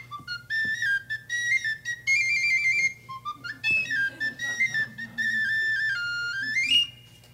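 Someone whistles a melody, clear and steady, with short notes stepping up and down between longer held tones, ending on a quick rising slide.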